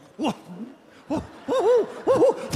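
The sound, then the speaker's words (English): A voice imitates an owl, giving a series of about five wavering, rising-and-falling hoots, the later ones coming in quick pairs. “And fired a rocket over his head and attacked him with his attack owl.”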